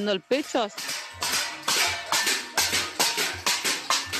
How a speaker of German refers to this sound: Ein Cacerolazo. Hämmern, schlagen, klappern auf Töpfe und Pfannen. Eine in ganz Lateinamerika weit verbreitete Protestform.